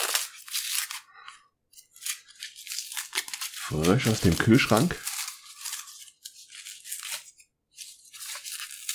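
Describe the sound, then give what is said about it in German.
Tearing and crinkling of paper and tape as a package wrapped in paper and tape is unwrapped, in repeated rustling bursts throughout, with a man briefly speaking midway. “Ja, wieder schön in Papier und Tape eingewickelt. Mal sehen, ob ich es jetzt in die Schnelle aufbekomme.”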